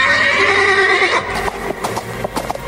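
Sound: horse neighing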